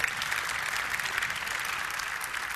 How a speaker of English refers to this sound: They didn't have to come anointed, but they did. Praise God. Hallelujah. Appreciate it. Give them another hand clap.